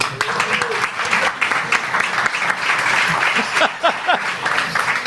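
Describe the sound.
A crowd applauds steadily for about five seconds, a dense wash of clapping with a few louder individual claps and faint voices mixed in.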